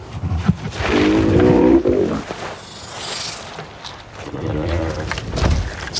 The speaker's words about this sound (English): So the groan of the male actually became, with some work and you know, adjustments and stuff, became the source, the basis for Drogon's purr with her.